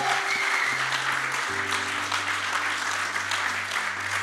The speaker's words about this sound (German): Echt, lass uns mal einen Applaus geben für die Menschen, die das einfach kreiert haben.